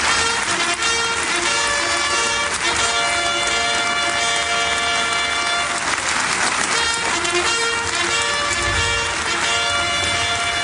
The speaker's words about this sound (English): But he did, of course, finally enter the parliament, the Israeli Knesset, to rounds of applause and a fanfare.